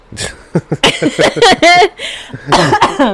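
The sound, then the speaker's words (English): A fit of harsh, loud coughing, with a rapid run of short hacking bursts followed by a few heavier, raspier coughs, and no talking in between. “Quit coughing.”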